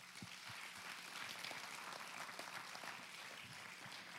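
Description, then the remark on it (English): An audience at Wellspring claps steadily for several seconds, a dense wash of many hands with no single beat standing out, fairly even in loudness throughout. “If you are here today and your life has been impacted in any way by being a part of Wellspring, I want you to clap right now for me.”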